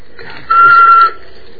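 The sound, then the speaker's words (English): A person whistles one steady, fairly high note for about half a second, clear with a breathy edge, amid quiet background noise and no talking. “Can you get a little bit higher?”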